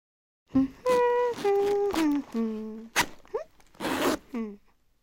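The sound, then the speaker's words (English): A skirt zipper is pulled up in quick rasping bursts while someone gets dressed, alongside a series of tonal, hum-like vocal sounds that rise and fall; fairly clear. “Then Stella gets dressed. She puts on her skirt and her t-shirt.”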